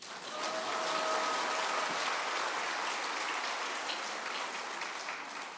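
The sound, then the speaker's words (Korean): A crowd claps steadily for several seconds, a dense, even patter of many hands with no voices, holding at a moderate level before easing slightly at the end. “그럼 박수 쳐야 되는데.”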